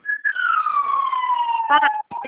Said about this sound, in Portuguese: Nossa, tá passando uma ambulância, não tô escutando nada.